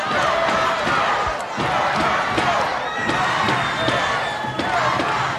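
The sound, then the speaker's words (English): A loud crowd at a Mid-Atlantic Championship Wrestling match cheers and roars steadily, with dense overlapping shouts and whistles and sharp thuds and slaps breaking through the continuous wall of noise, as wrestler Canoodle, outside the ring, is thwarted by the World Tag Team Champion. “Listen to our crowd with a go down, go check.”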